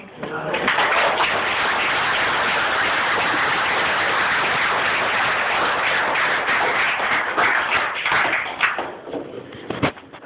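An audience bursts into steady, dense applause that holds loudly for about nine seconds, then thins out into a few scattered final claps.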